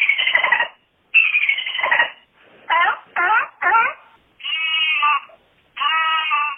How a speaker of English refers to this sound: Like this one, in which, for reasons I will never understand, he played dolphin sounds.